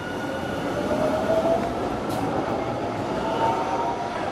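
train

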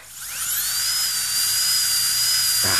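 dentist's drill whirring

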